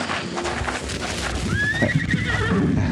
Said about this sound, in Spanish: Los caballos se muestran inquietos.